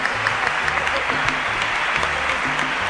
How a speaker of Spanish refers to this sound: Un aplauso